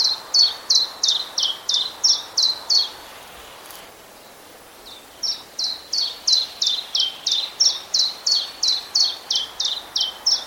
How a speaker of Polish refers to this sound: Pierwiosnek, choć z wyglądu niemal identyczny, śpiewa zupełnie inaczej. Jego śpiew najłatwiej opisać jako rytmicznie powtarzane cilp-calp, cilp-calp.